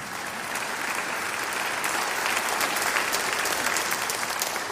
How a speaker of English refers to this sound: Yeah, go ahead and clap.